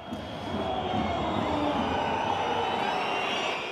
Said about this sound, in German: Wir hören diese Atmosphäre im Stadion. Wir hören die Pfiffe im Hintergrund. Damit muss man wahrscheinlich leben als Schiedsrichter.